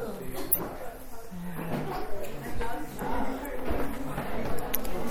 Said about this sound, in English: All right. I'm going to shut the door.